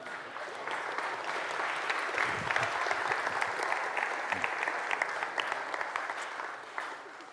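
An audience applauds steadily, a dense wash of many hands clapping at roughly even loudness for several seconds, with no voices standing out.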